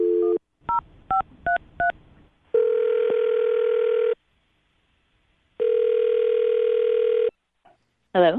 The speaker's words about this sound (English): All right. I'm going to dial her phone number right now. Here we go.